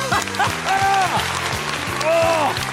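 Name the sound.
applause and cheering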